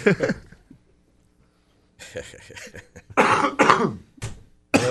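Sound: coughing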